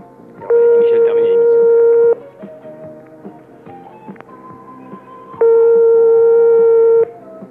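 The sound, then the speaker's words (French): A telephone ringing tone, the first ring of a call, sounds twice, each a loud, steady, mid-pitched buzz lasting about a second and a half, separated by a few seconds of quiet with faint background murmur. “Première sonnerie.”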